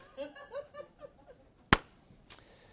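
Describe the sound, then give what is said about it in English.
Giggling laughter fades out, then a sharp, loud hand clap rings out alone, followed after a slow pause by a second, softer clap. “God thinks you're worth it, but not after that clap.”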